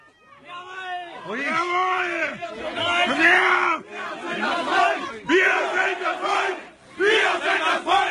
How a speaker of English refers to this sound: Shouts of "Go home" and "We are the people." Now, Klausnitz is a town of about 800 white Germans in the state of Saxony.